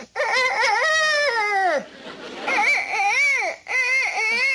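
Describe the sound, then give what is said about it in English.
A child's voice, playing the fairy queen while reading a story aloud, imitates a rooster crowing: three high, strained calls, the first long and sliding downward, the next two rising and falling, with brief breaks between. “Crow like a real rooster.”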